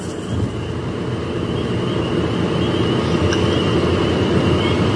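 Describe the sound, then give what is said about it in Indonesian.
A steady, unbroken engine drone with a low rumble and a faint high whine runs evenly throughout, the hum of a car driving after dusk on a quiet road lined with forest on both sides, from Garut toward Cikajang, Indonesia, with no voices. “Yang kudengar hanya suara mesin mobilku saja.”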